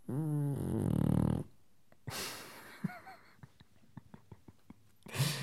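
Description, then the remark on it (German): A dog named Fiete snores loudly while asleep in his basket: a long rumbling snore followed by a breathy exhale, some quiet shuffling and soft clicks, then another sharp snorting breath at the end. “Fiete schläft und schnarcht in seinem Körbchen.”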